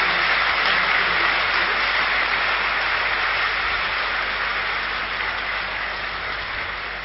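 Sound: audience clapping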